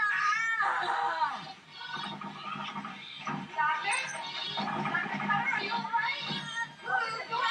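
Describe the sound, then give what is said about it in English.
A cat caterwauls in a long series of loud, wavering yowls and moans that rise and fall in pitch, continuing almost without pause for several seconds. “Well, no, because she's a vet, it could just be a cat making that noise.”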